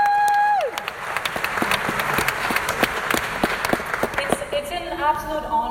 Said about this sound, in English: And I know you're all fanning yourselves and it's all sweaty, but the fact that you're all here, the dedication, that's so incredible. I think that deserves a round of applause for all of you.